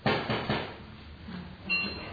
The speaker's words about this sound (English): Banging on the door. Locked. Probably in the wrong place. Looking for someone.